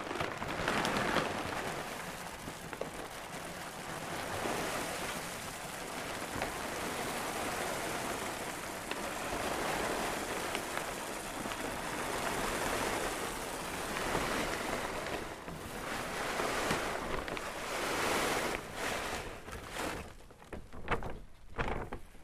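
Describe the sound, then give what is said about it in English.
Dry dog kibble pours steadily into a can about 2 feet tall, filling it right up to the brim, a dense, continuous rattling hiss like heavy rain that runs for about twenty seconds before breaking into a few scattered clatters at the end. “Pouring, it's right up to the brim with kibble.”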